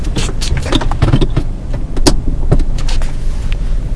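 One car starts to move off on a rainy day, its low engine rumble steady and continuous, with scattered clicks and light clatter over the top. No one speaks.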